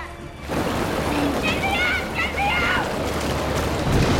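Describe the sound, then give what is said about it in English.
Water rushes and pours into a vent in a steady, loud torrent as the water level in a room rises fast; it starts abruptly and continues throughout, with a voice crying out over the churning flow. “In the room they left from, the water level is rising fast and pouring into the vent.”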